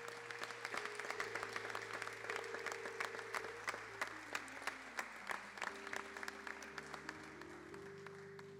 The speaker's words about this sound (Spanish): Muy bien, ahí queda el aplauso.